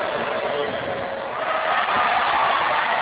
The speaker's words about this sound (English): Natalie Hughes misses the first free throw. As you can probably tell from the crowd reaction there, as they're trying to put her off.